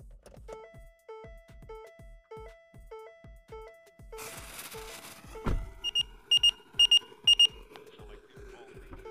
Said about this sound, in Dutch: Opgepast, niet schrikken nu. Nou, het is maar een piepje. Ik dacht dat ze een superluide knal of zo.